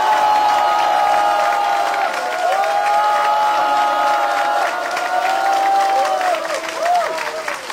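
A large crowd applauds steadily with loud, dense clapping, while scattered cheers and excited high-pitched shouts rise and fall over it throughout.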